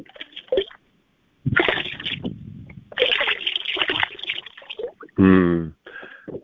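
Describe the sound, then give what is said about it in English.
Water poured from a water bottle into the ocean splashes in a steady gurgling stream over a few seconds, with a short voiced sound from a person near the end. “And I'm just taking some of the water in this water bottle that you have all helped bless, and I'm pouring it in the ocean.”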